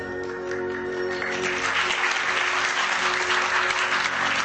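A theatre audience, many of them Americans, breaks into sustained applause during a stage performance, a dense, steady wash of clapping that swells slightly and holds throughout, with no speech over it.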